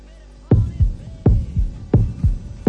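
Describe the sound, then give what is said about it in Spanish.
A heartbeat sound effect in a Real Valladolid (Pucela) promo: deep, booming lub-dub thumps repeating in a steady rhythm, four double beats in all. They begin after a brief low hum and have no voices over them. “Escucha tu corazón. Pucela late.”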